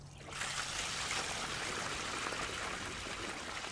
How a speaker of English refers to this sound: The water streams downhill, following hand-dug trenches. Eventually, it reaches the base of the plants.